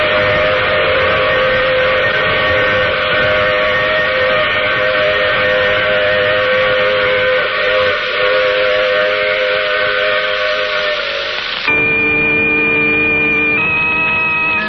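A loud, sustained steam train whistle blows for nearly fifteen seconds over a low rumbling hum as the train stops at a station, its chord-like tone dropping abruptly in pitch near the end and then shifting once more.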